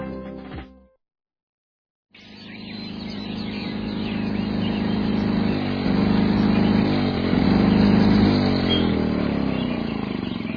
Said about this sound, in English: Everyone, pardon my noisy lawnmower.